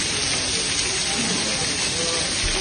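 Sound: heavy rain falling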